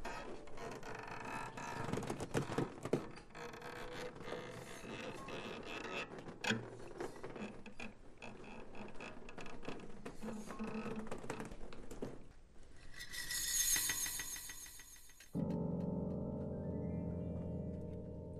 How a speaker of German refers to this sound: Vorsichtig öffnete Marie die Tür.